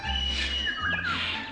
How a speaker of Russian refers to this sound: Послушай, птичьи голоса. Это какая птица? Это зяблик. А это? Синица.